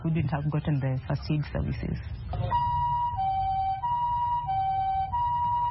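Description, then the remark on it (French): A person talks briefly, then the siren of an ambulance serving the Kibera slum takes over, a loud two-tone hi-lo wail alternating steadily between two pitches over low road rumble. “Jusqu'à présent, une ambulance dessert environ 250 000 habitants dans le bidonville de Kibera.”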